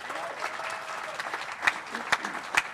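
A crowd applauds steadily, a dense wash of many hands clapping at moderate volume, with a few sharper, louder claps standing out near the end.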